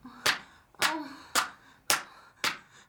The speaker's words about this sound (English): The slap started lightly and on my right butt cheek.